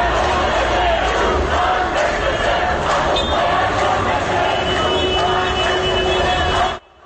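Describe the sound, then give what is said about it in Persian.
A large crowd of protesting doctors gathered in front of the forensic medicine building in Tehran shouts and chants slogans against the security forces, in loud, continuous collective yelling, voices overlapping with a rough, rising-and-falling rhythm until it cuts off abruptly at the end. “در ویدیوهای منتشر شده از تجمع پزشکان صدای چندین تیر نیز به گوش می‌رسد و معترضان در واکنش به این اقدام علیه نیروهای امنیتی شعار می دهند.”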